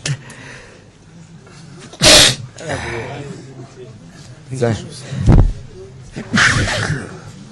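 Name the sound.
sneeze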